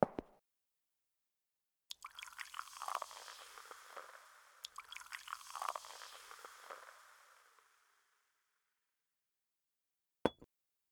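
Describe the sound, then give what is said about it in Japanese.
Champagne gurgles and fizzes as it's poured into two glasses in a hotel suite, one after the other, followed after a short pause by a single bright clink of the glasses in a toast. No one speaks. “お酒でも飲もうか。シャンパンがあるよ。”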